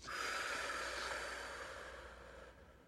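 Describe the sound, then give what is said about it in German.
A long, deep breath pushed out, a steady airy rush that slowly fades over a few seconds, with no talking. “Ich möchte, dass ihr atmet. Raus mit dem Hass.”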